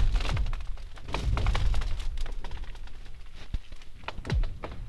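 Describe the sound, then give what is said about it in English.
Lake ice booming and cracking as the sun comes up or goes down, with cold nights and warm days: a steady run of deep thuds, sharp cracks and eerie descending zinging sweeps, some loud, others softer, with no voices. “the temperature change is pretty extreme, that as the sun is coming up or going down, it's like it's just constantly going on, this booming and cracking.”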